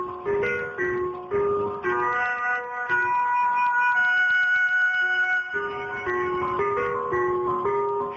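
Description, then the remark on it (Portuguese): A gas delivery truck's jingle plays loudly, a bright, electronic-sounding melody of repeating tinny notes that continues steadily with no voices over it. “Então, não, imagina o caminhão do gás, com aquela musiquinha alta lá.”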